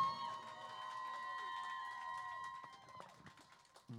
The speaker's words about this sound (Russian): Под ваши аплодисменты, конечно.